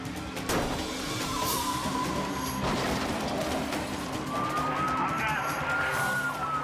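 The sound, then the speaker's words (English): A car fleeing a police chase is bumped and pitted by a deputy and lurches off the road into a ditch with jolting thumps, engine and road noise roaring steadily while a faint siren wails in the background. “And he's sent soaring off the road and into the ditch.”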